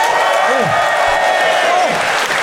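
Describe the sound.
A crowd applauds steadily, dense clapping filling the whole stretch at a loud, even level, with a few voices briefly rising through the noise.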